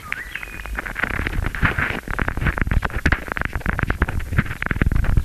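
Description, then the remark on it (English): A water rat gnaws at the rubber cover of a hydrophone it has put on a log, coming back about every hour, making a dense run of loud, irregular scraping clicks and crunches over a low rumble, with a brief thin whistle near the start. “And you can hear every hour or so it comes back and eats on the rubber of the hydrophone.”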